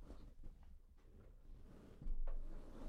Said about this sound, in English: Hold on, let me adjust my chair.